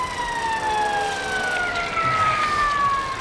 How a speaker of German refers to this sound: Achtung, Leute! Rechts ran, der Krankenwagen kommt! Ah, da ist er schon.